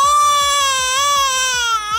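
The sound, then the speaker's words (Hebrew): A baby cries in one long, loud, sustained wail with a slightly wavering pitch. A quieter rhythmic pulsing sound repeats underneath it throughout. “מה זה, אדוני? מי זה התינוק הזה?”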